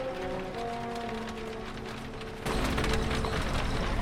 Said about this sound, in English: He follows him in, and they trundle out of the castle grounds as the portcullis slowly closes behind them.